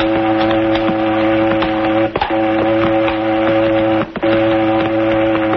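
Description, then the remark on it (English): The whistle of a cannery boat in the harbor, one of the boats that service the fishing canneries, sounds a long, loud, steady low-pitched blast, broken twice by brief gaps before resuming, with no voices. “Must be a boat in the harbor.”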